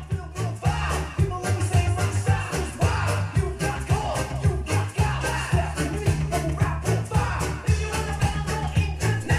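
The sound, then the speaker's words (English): Loud, busy Balkan brass horn music plays throughout, with layered horn lines over a steady, pulsing low bass beat and no voices. “That sound of those horns is how I imagine the sound you hear while you're walking down the street.”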